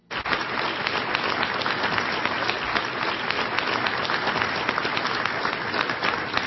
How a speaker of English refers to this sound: Somebody press the clap button on Elaine's remote control.